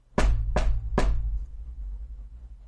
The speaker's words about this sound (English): What I want you to do is go to the door and answer it. I'm actually standing right outside. Can you knock? The doorbell doesn't work.